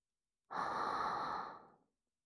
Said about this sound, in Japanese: ちなみに吐息の音だけど、攻撃前の息を吸う音は聞いても問題ない。